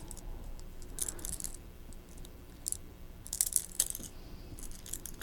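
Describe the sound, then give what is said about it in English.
Metallic keys jingle in several short, bright bursts, clustered irregularly with a couple of louder shakes near the middle, with no one speaking. “look, it's keys. You like keys?”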